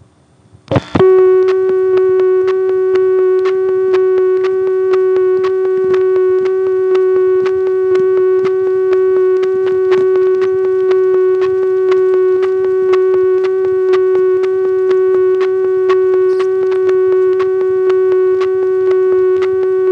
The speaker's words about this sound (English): this one happens to have an unusual dial tone.